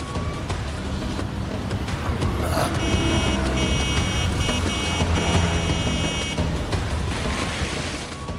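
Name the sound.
car driving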